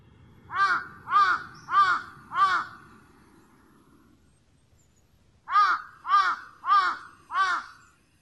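A large-billed crow caws in two bursts of four loud, evenly spaced calls, separated by a few seconds of quiet, with faint low background noise beneath.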